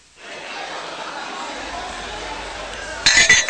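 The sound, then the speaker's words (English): Pint glasses of beer clink together in a bright toast near the end, a few ringing taps over a steady murmur of pub background noise and faint voices. “Here's your pint. Shut a finta. And one last important thing. Slánche. Cheers. Slánche.”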